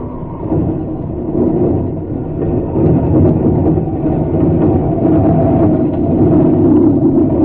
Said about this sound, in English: At about the same time, a plane came down on the field nearby.